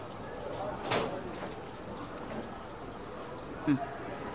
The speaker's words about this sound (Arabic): يسربوا مي من قرني تانية